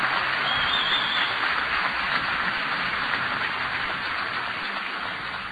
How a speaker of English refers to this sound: Please give your outstanding team a big round of applause.